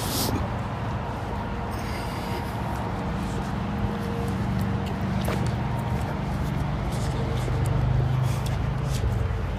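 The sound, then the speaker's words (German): A steady, dense roar of traffic on the A6 motorway, by a construction site where a new bridge over the Neckar is being built, a continuous low rumble with a hissing wash of tyres and no breaks or voices. “Dieses beruhigende Geräusch der A6. Ich weiß gar nicht, ob ihr das hören könnt.”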